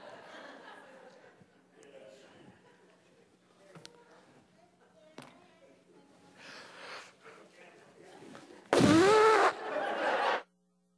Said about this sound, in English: What if I wanted to blow my nose?